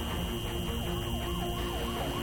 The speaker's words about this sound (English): Every morning starts with the sound of ambulances down here.